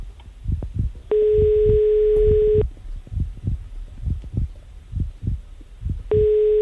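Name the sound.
phone call ringing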